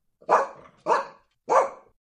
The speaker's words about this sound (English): Let's say you walk past an angry dog. What sound does the dog make?